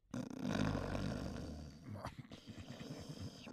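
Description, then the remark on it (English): A person's loud, rough snore rumbles, one long drawn-out rattling breath that breaks into choppier, fluttering snorts toward the end, with no talking. “You got a snoring problem?”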